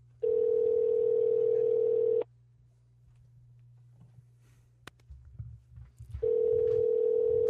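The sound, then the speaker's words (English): An outgoing phone call rings on the line: a loud, steady ringback tone sounds for about two seconds, pauses for several seconds amid faint room noise, then starts again. “Is it ringing? It's ringing.”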